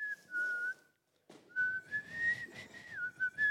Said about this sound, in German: Oh, wer pfeift gerade? Ich. Du.